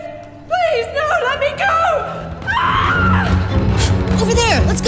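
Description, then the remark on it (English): A person screams with a high, wavering voice that rises and falls in pitch, loud, over a busy background of other voices and noise. “We're going towards the scream?”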